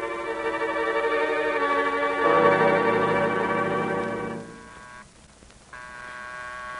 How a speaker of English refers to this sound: That's Miss Maggie ringing. You go up, Jefferson.